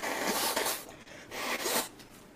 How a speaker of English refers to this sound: Let me blow my nose.